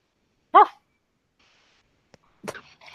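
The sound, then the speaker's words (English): A man gives one loud, sharp bark, imitating a dog. After a pause comes a faint click, then a brief rough throaty noise. “Somewhere, a man barks.”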